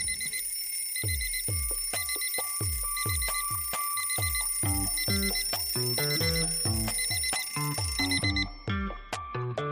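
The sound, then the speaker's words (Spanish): A loud alarm clock rings early in the morning, its bright electronic beeps repeating in a fast, steady rhythm for about ten seconds, with no voices. “Suena el despertador, bien temprano, y comienza la jornada con un ritmo de vértigo.”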